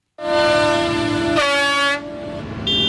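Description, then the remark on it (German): Loud, sustained horn blasts from about 50 tractors in a memorial convoy rolling slowly past an accident site near Friedeburg overlap and shift in pitch, several honking at once, with a low engine rumble underneath and no talking. “Rund 50 Trecker rollen langsam an der Unfallstelle bei Friedeburg vorbei und hupen.”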